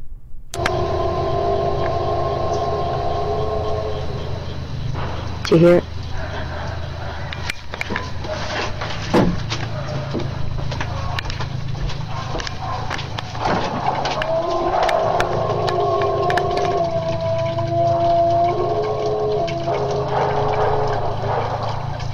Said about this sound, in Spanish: Esto es lo que se cree que es uno de los sonidos que produce el Sasquatch. Les voy a poner para que vean cómo habla Sasquatch.